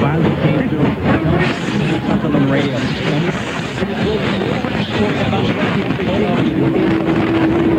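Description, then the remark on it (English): A jumble of overlapping AM radio stations on 1290: constant loud static with muffled, indistinct voices tangled together, and a steady low whistling tone rising out of the noise toward the end. “Nothing on 1290 right now, just jumble.”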